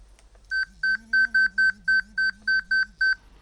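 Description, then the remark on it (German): A quick, evenly spaced run of about ten short, bright electronic beeps, a notification from an InnoMake Clip obstacle-detection wearable, clear, with a faint low warbling buzz underneath. “das war jetzt eine Meldung vom InnoMake Clip.”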